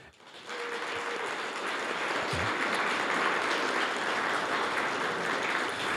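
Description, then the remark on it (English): Sustained applause from an audience at an evening election forum for the event staff and the McLean County League of Women Voters timekeepers. It is a dense wash of many hands clapping that swells quickly and holds steady and fairly loud for several seconds, with no talking over it. “They deserve a round of applause.”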